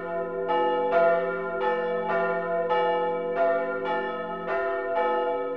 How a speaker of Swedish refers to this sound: klockorna som ringde när jag var ung. Nu är de borta, men jag kan fortfarande höra dem.